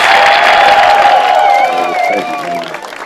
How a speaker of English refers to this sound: Want to give a big round of applause.